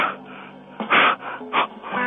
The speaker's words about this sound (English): Yeah, there you go again with the breathing. What is that supposed to be, man? Oh, that is a man having an orgasm.